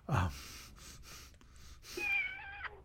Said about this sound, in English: Is that your cat or my cat? Your cat.